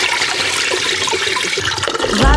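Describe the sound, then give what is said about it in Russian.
A toilet flushes with a loud, steady rush of water, a broad hissing gush that holds for a couple of seconds and swells with a gurgling drain at the end. “Закомпостировал, отправил в клозет.”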